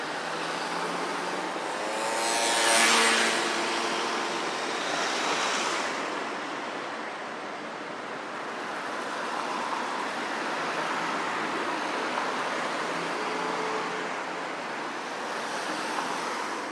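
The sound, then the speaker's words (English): Steady roar of road traffic at a pedestrian crossing at the end of Vauxhall Bridge Road as the traffic starts off, with a louder vehicle surging past early on, its engine whine rising and fading, then a continuous broad wash of passing cars. No voices. “So I'm about to cross the end of Vauxhall Bridge Road here, and as the traffic starts off, we should get to cross in just a second.”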